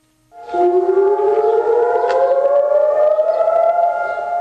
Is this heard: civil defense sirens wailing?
yes